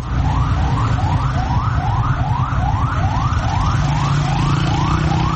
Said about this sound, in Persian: این صدایی بود که امروز در محدوده مرکزی شهر تهران ساعت‌های متمادی شنیده می‌شد. صدای آژیر اتومبیل‌های آتش‌نشانی و آمبولانس‌هایی که از اولین ساعت روز تلاششان را برای اطفای حریق ساختمان پلاسکو، اولین ساختمان بلند مرتبه تهران، آغاز کردند.